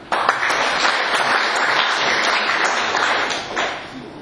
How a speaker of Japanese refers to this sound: 拍手